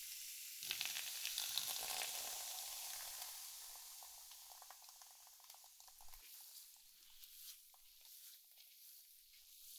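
Close, steady fizzing of carbonated water poured over hair as a final rinse to remove leftover shampoo, a dense crackling hiss that starts abruptly, stays busy throughout and slowly softens, with no voices.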